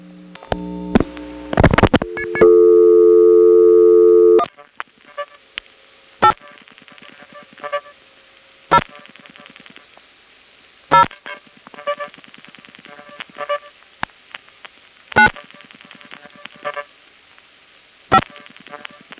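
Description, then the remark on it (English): A rapid burst of touch-tone dialing beeps as a call is placed to an unassigned office code in area code 800, then a loud steady telephone tone for a couple of seconds, followed by a quiet line broken by sharp, irregular clicks and faint switching noises. “Here's a call to an unassigned office code in area code 800.”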